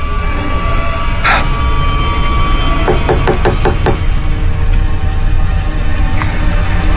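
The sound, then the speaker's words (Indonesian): A quick series of about six sharp knocks on a wooden bedroom door at midnight, evenly spaced, over a steady low background hum with no voices. “Siapa nih yang tengah malam gini ngetuk pintu kamar?”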